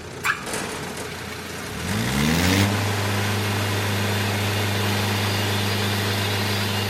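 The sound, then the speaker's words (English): A truck-trailer-mounted mobile sawmill slicing a 2,000-pound oak log from city trees into planks: its engine winds up with a rising whine, then settles into a loud, steady low drone with a hissing, rasping wash above it as the blade runs. “O'Neill's mobile sawmill mounted on a truck trailer is slicing a 2,000-pound oak log into manageable planks.”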